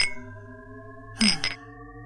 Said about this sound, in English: Let me pull out the rest and just kind of clink them together.